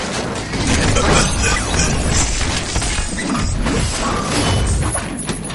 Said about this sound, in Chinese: 沈元朝对着怪物的脖子连砍了四五铲，砍出一道道火星子来。姜子达没有家伙，他也豁出去了，扛起长条椅就向怪物猛砸过去